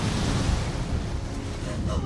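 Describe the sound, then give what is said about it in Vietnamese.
A loud, steady roar of flash floodwater rushing in and sweeping away a house, a dense churning wash with deep rumbling underneath that never lets up across the whole stretch. “Nước đổ về nhanh như thác dữ”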